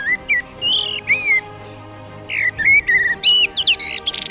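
A common blackbird sings: mellow, fluting whistled phrases, a short pause, then a quicker run of phrases ending in high, squeaky twittering, with no voices.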